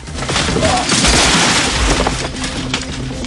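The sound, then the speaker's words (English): Loud, continuous bursts of rapid automatic gunfire from a submachine gun peppering the walls rattle through the whole stretch, mixed with booming impacts and crackling, breaking debris. “He hauls a submachine gun from a holdall. Sid peppers the walls with the gun.”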